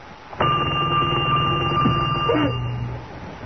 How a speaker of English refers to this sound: I got to answer that phone